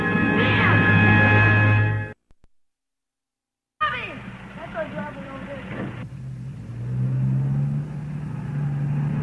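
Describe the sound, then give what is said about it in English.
A truck engine rumbles and revs up close, drops out for a moment of silence, then roars back with rising revs before settling into a steady low drone. “Here are the kids now with a truck.”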